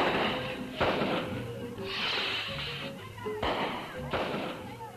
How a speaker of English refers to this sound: There was a loud report, followed by a series of staccato bangs as the rocket completed its explosive arc across the Salvadorian sky. This was a fiesta day for Guazapa, and more particularly for the neighboring village of Loma de Ramas.